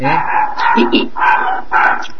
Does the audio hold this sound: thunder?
no